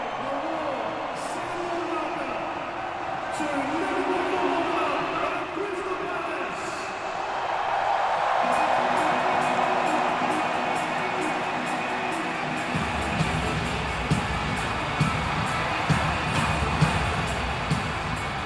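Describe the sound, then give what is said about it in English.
A massive stadium crowd roars continuously as the teams wait in the tunnel and the players are about to come out, a dense wash of cheering that swells around the middle and stays loud, with faint sharp claps or bangs poking through near the end. “And I'm excited to hear this noise from this massive crowd.”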